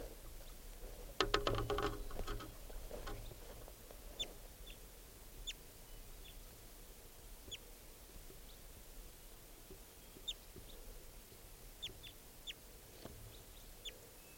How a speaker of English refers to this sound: Recording that wild bird.